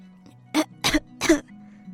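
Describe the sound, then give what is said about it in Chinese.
Three short, hoarse coughs in a quick row, voiced by a person imitating a monkey coughing from the cold in the rain, fairly loud over a quiet low hum. “最后猴子还是被冻得咳嗽起来了”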